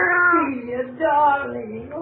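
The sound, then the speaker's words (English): Two drawn-out, plaintive meows from a cat inside a freezer follow one after the other, fairly loud, each sliding down in pitch. “Hey, that cat sure is lucky.”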